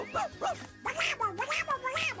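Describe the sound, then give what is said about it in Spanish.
Pluto, the cartoon dog from Mickey Mouse Clubhouse on Disney Junior, barks repeatedly in a quick series of short, yappy barks, about five or six in a row with brief gaps, loud and lively against a faint background hum. “¡Eres el mejor perro de rescate del mundo!”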